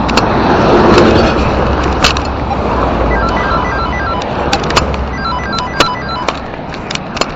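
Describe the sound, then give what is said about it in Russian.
Heavy semi-trucks rumble past on a busy road entering Sergiev Posad, Russia, from the east: a steady, loud roar of engines and tires with a deep low drone and occasional sharp clicks and rattles, no one speaking. “Блять, одни фуры, ебать.”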